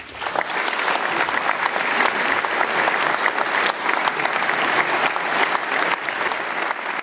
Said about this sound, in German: Langer Applaus für den Vortrag des Spitzenjuristen Andreas Voskuhle. Er hat ihn am 10. November 2025 gehalten in der Aula seiner Uni, der Uni Freiburg, unter dem Titel »Der Verlust der Mitte und die Krise der Demokratie«.